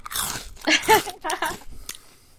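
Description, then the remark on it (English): Loud crunching as a crunchy snack is chewed, a few irregular bites over about two seconds, with a brief vocal sound mixed into the middle bites. “All this crunching is making me really want Chex Mix.”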